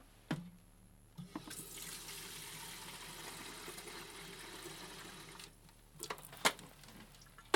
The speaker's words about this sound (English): But stupidly last night we didn't filter enough water, so I've got to wait for that to happen.